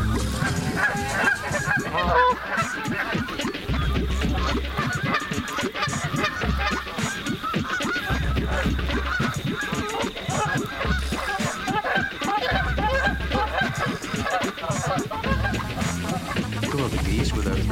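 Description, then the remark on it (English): A dense, continuous chorus of geese from a flock of about 100 birds, honking and squabbling in many overlapping calls as family groups bicker when one family swims too close to another, with harsh bursts rising and falling, plus low rumbling underneath. “Listen to a few goose arguments when one family swims too close to another.”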